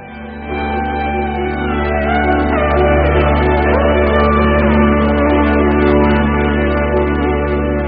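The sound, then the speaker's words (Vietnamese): A group of men, cadres in a yard, shouting and cheering outdoors, a dense, continuous wall of overlapping raised voices that swells in after a brief moment and stays loud throughout. “Những tiếng reo hò của lũ cán bộ ngoài sân như nhắc nhở tôi đừng mơ hồ nữa.”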